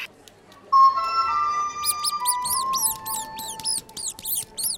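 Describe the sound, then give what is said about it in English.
A tin whistle sounds a few sustained, reedy notes that step down slightly in pitch, while a rapid run of shrill, high squeaks chirps in over the second half. “There's nothing that a stoat hates more than a tin whistle.”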